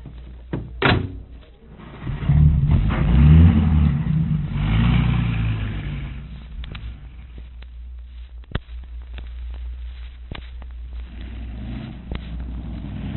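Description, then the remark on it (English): A car door thuds shut, then an engine roars to life and revs loudly before settling into a steady rumble as the car pulls away and drives on. “Now, here's the car. Hop in.”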